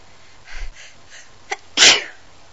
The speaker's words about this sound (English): My allergies are something. I think you need to get your mistress a tissue. That would be very nice. And when mistress is about to sneeze, I think...